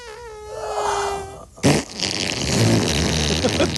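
fart sound effect

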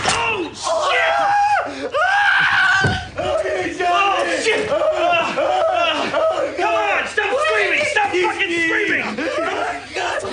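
man screaming in pain

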